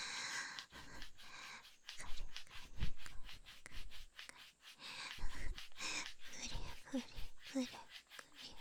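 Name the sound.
scratching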